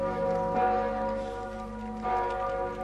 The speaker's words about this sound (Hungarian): Harangszóra érkeztek a hívek az esztergomi bazilikába.